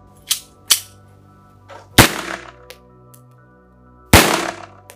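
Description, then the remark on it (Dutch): An 8mm blank alarm pistol fires on the shooting range of a police training centre in Kerkrade: a series of sharp, loud cracks at uneven intervals, two of them especially powerful with a brief ringing tail, plus a few fainter pops in between. “Op de schietbaan van het politietrainingscentrum in Kerkrade laten Mark en Marieke horen hoe een alarmwapen klinkt, in dit geval een 8mm.”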